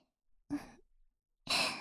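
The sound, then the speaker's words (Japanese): Two soft, airy breaths blown gently onto the skin of the listener's ear in a breathy sigh-like exhale, the second longer and hissier, with a brief quiet pause between them and no talking. “それでは、まずはお耳のお肌を吐息で優しく撫でるようにしていきますね。”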